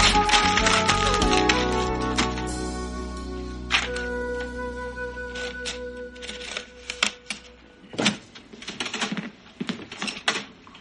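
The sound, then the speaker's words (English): Irregular bursts of keyboard typing, with sharp clicks arriving in uneven clusters and short pauses, following a fading tonal hum at the start. No voices are heard. “I decided to come down here so Mom wouldn't hear the typing.”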